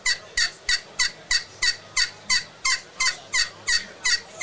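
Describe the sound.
A Woodhaven Cherry Classic glass pot turkey call, worked with a peg, yelps in a steady series of about twelve raspy, high-pitched notes, evenly spaced and fairly loud, with no talking over it.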